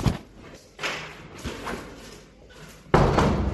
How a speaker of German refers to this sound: Ich bitte meinen Hund, aber ich muss noch die Tür abschließen.